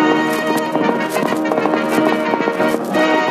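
horse hooves clip-clopping

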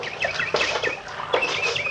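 bird singing

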